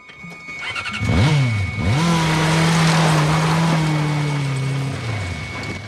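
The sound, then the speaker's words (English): A man's motorbike engine kicks to life with a couple of quick revs, then holds a loud, steady roar as he speeds off, the whine easing slightly near the end. “He runs outside, clambers onto his motorbike, and zooms away.”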